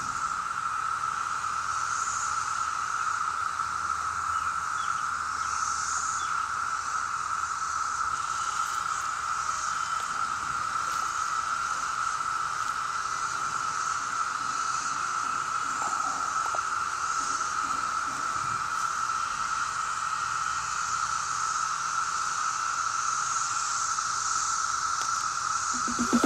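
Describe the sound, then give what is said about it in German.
A dense chorus of periodical cicadas drones steadily for the whole stretch, a loud, continuous high-pitched buzzing hum with a shimmering hiss above it and no voices. “Die Zikaden haben das Wort.”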